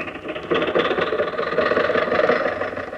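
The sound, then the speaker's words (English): A car engine runs steadily with a rough, rattling mid-pitched chug, swelling slightly louder after the first half second and holding there without any talk. “Now, get in the car.”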